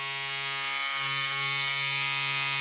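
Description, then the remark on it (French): A steady electric razor buzz runs throughout, a dense motorized drone with a harmonic hum that grows slightly stronger partway through. No one speaks. “Qu'est-ce que c'est que ce bruit ? Un rasoir ?”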